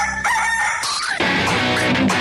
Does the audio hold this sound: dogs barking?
no